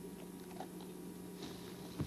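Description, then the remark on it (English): Faint, irregular crunching and chewing from a female puppy eating food on a carpet, soft clicks scattered over a steady low hum, with no one talking. “She likes to get right over on the other side of the carpet and eat, don't you?”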